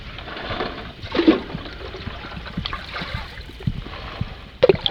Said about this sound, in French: Alors là, ça évoque des bateaux parce que c'est probablement les rames, mais si on regarde pas. Et là, on entend très bien la rame. Là, c'est effectivement, ça ressemble à un enregistrement de bateau. Et c'est un bateau.